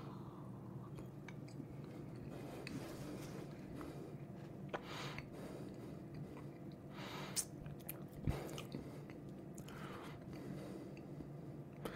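Quiet mouth sounds of someone sipping neat whisky, with a few small slurps, wet smacks and swallows scattered over several seconds and no talking.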